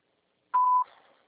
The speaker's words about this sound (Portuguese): Sua chamada está sendo encaminhada para a cabine da porta final. Aguarde o sinal, grave sua mensagem.